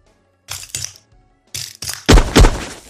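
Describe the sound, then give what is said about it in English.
Glass test tubes standing in front of a key being cracked: several sharp, brittle snaps in quick pairs, growing louder, ending in two heavy, crunchy breaks, with no talking. “Oh, these ones might be a bit tougher to crack than the regular ones.”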